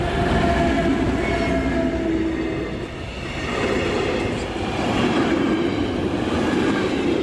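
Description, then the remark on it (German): A tank-wagon freight train several hundred metres long, pulled by a heavy diesel locomotive, rumbles past with a loud, steady low roar, faint wheel clatter and tonal hums from the locomotive, dipping briefly midway before swelling again. No one speaks. “Und eine halbe Stunde später kommt er tatsächlich, der Kesselwagenzug, mehrere hundert Meter lang, gezogen von einer schweren Diesellokomotive.”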